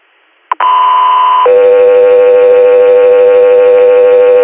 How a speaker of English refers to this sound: 3 Air, stand by for tones.